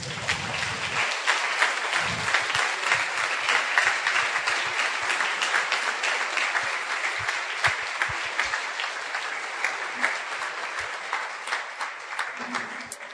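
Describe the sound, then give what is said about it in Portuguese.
A crowd claps steadily in sustained applause for Jesus, a dense, even patter of many hands holding at a consistent loudness throughout with no voices standing out. “Damos uma salva de palmas para Jesus.”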